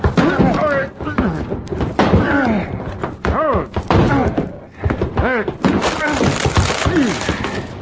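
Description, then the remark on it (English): A locked closet door being forced open while someone trapped inside bangs on it: repeated heavy thumps and bangs with loud creaking, straining wood, forceful. Grunts of effort are mixed in throughout. “They must have locked somebody in this closet. Here, give me a hand.”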